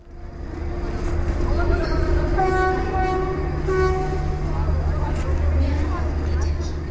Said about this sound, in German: Der Neu-Delhi-Bahnhof ist ein Ungetüm. Hupen und pfeifend fahren Züge ein und aus, die Lautsprecher plärren, überall Menschen, einheimische Touristen.